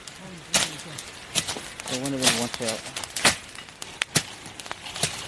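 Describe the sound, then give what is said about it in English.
Sharp, irregular pops and snaps of a crackling bonfire ring out as a tropical downpour begins, with a steady hiss underneath and a voice briefly talking in the middle. “You can hear the bonfire, and it started raining as well.”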